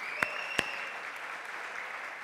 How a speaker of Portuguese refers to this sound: Vamos aplaudir a igreja.